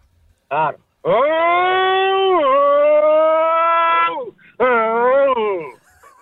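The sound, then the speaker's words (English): A man's voice imitates a V8 racing car: a short blip, then a long sustained engine roar with rising and shifting pitch, a brief gap, and another revving burst that swells and fades. “What, V8s or Formula 1? V8. We'll do a V8.”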